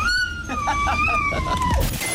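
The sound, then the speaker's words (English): A person imitates a dog with a high, drawn-out whining howl that wavers and pulses before tailing off, loud, for about two seconds. “Human dog.”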